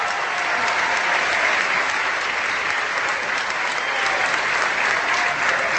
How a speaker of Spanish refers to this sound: Y ahora que venía aquí a Morelos, le hablé por teléfono y la invité para darle un aplauso aquí